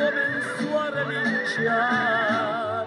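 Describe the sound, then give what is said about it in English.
A Spanish purebred (PRE) horse on a ranch in eastern Spain whinnies loudly, a long, quavering, high-pitched neigh that wavers up and down for several seconds with no voices over it. “10 years ago, he bought a ranch in eastern Spain and started filling it with so-called PREs, Pura Raza Españolas, Spanish purebred horses.”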